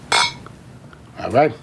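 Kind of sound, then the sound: household object, glasses clinking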